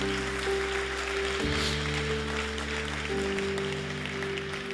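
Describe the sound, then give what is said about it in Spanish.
An audience applauds together as an offering of applause, steadily for several seconds, a dense wash of clapping over sustained keyboard chords that shift pitch midway; no one speaks. “Damos una ofrenda de palmas todos juntos.”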